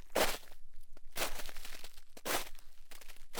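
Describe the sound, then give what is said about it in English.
Footsteps crunching through nearly foot-deep snow at night on Mount Hood, around 6,000 feet in slightly above-freezing temperatures, during a climb: three broad compressing crunches at a slow, steady walking pace, fairly soft with a quiet background between each step. “The snow was nearly a foot deep, and their footsteps created a crunchy rhythm that broke the silence of the night around them.”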